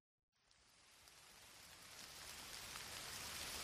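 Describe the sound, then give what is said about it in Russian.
Steady rain falls in a dense, even hiss that starts suddenly after a brief silence and swells gradually louder, continuous, with no voices. “Интересно, а дождь не закончился, пока я обувалась?”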